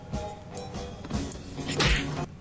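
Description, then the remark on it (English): A sharp slap, a man slapping a cigarette out of a child's mouth, lands among a cluster of scuffling thumps and whacks, fairly loud, with a heavier thud near the end and no speech. “I believe it was him slapping a cigarette out of a child's mouth.”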